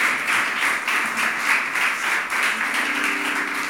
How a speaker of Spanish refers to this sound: ¿Qué tal si le dan un aplauso grande al nombre del Señor? Ese aplausito yo creo que fue como para quién sabe quién. Dale un aplauso en serio al Señor.